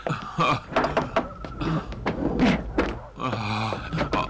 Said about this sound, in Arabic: اذهب واطرق الباب يا ولد.